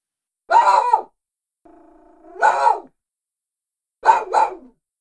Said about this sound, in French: Un petit chien approche.